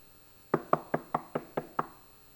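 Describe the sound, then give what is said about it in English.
Seven quick, evenly spaced knocks on a wooden door, sharp, each with a brief hollow ring-off, with no talking. “Knock on the door.”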